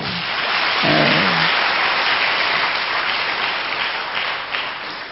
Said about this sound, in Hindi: वाह, ताली बजाओ।